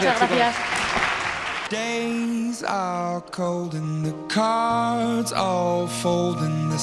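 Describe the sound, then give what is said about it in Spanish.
A short burst of dense, loud clapping from a crowd, a strong farewell applause for guests of a radio programme at the Colegio Maristas de Alicante, fills the opening moments, then cuts off as a bright musical jingle with sustained tones takes over. “Eso es, y tomamos buena nota de todo ello y despedimos ahora mismo con un fuerte aplauso”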